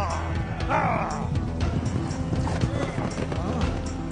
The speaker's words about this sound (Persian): صدای پای اسب مأمون هست، مراقب باشید.